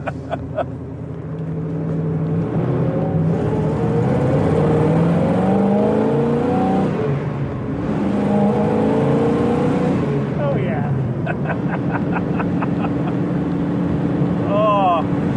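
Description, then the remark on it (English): An old, crude car engine runs and revs steadily in cold weather, with squeaks and rattling clicks over a low, rough drone; a short burst of rapid ticking comes near the end. “God, what a machine. I forgot how crude these were. Yeah, squeaky and rattly. The cold certainly makes it noisy.”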